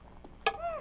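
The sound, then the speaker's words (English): Keys clink briefly: a soft tap, then one sharper ringing metallic jingle, followed by a short high, gliding vocal sound. “There go the keys.”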